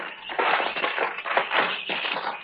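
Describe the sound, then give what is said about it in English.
A rusted lock on the door of a building with no windows is wrenched open with harsh, gritty grinding and crunching, rising in several rough bursts over a couple of seconds, with no voices. “The lock's all rusted through. There. Yeah, that does it.”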